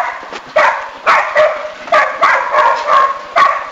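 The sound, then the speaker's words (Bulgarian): Dogs bark loudly at a deserted-looking mill in the village of Zlatna Livada, a rapid series of about seven sharp barks in an uneven rhythm, with no one speaking. “За живот там напомнят обаче кучетата.”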